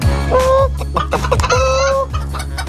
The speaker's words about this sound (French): Ça, c'est les poules, ça. Il est où le coq?